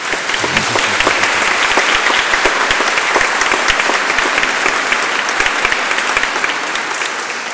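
Steady applause at a church service welcoming a new nun from Italy, many hands clapping in a dense, even patter at a fairly loud level with no voices over it.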